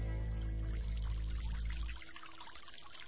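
Water squeezed out of a small cloud, as from a sponge or washcloth, pours steadily in a dense, splashing stream like a heavy shower, making a small but very dense rain onto a burning clearing; strong and continuous at first, then thinning to a lighter patter after about two seconds. No one speaks.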